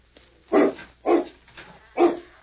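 A hound in a pen barks in short, sharp bursts, three loud barks with a softer one between the last two, spaced at a steady, unhurried pace, with no talking.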